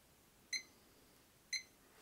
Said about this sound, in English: But when my alarm first goes off, I usually want to sleep just a little bit more.